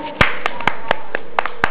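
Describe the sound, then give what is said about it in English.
A quick run of about eight hand claps in a steady, slightly uneven rhythm, fairly loud, with no talking over them. “Clap yourself.”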